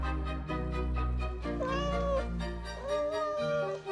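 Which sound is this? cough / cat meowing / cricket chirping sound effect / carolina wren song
cat meowing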